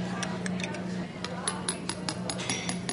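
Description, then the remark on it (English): A spoon stirs a cup of fizzing Alka-Seltzer water, giving a quick series of bright metallic taps and clinks over a steady hiss of bubbles, with a low hum underneath. “Now I'm going to put in a spoon of Alka-Seltzer now and stir it up”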